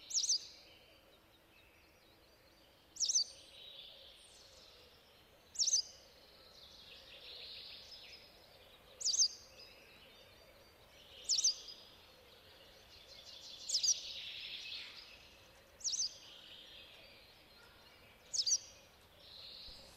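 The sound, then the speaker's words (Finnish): A white wagtail travelling on a car ferry gives short, sharp calls about every two to three seconds, eight in all, over a soft steady hiss of insects or ambience. “Ja västäräkin esitteli”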